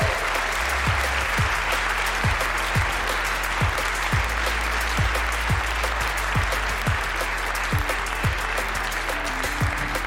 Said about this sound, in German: Macht bitte nochmal eine Runde Applaus für die Podcast-Gemeinde und alle, die uns im DAB Plus Digitalradio hören, falls es mal soweit ist.